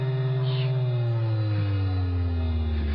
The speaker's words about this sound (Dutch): Zie hier, de stofzuiger van de toekomst. Deze ruimte is voor het eerst van haar bestaan geheel stofvrij.